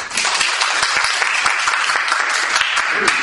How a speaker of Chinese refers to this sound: 我们掌声欢迎他啊！